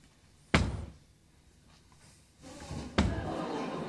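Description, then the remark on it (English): A door is shut with a solid thud, and a second similar bang follows a few seconds later over a low rumbling background, with no one talking. “You don't think an alligator can open a door, do you? She did close it.”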